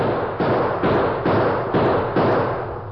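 A sheriff fires a rapid series of about six loud gunshots at a steady pace, roughly twice a second, each sharp crack ringing out and echoing into the next, with no voices.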